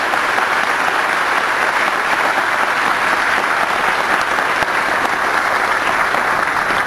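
crowd, round of applause

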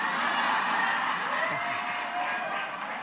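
crowd, audience applause and cheering

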